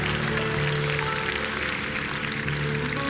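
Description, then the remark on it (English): A church audience claps steadily throughout for people going off to be prayed for, a dense continuous patter of many hands, with sustained low musical tones humming underneath. “Give them a big hand clap as they go.”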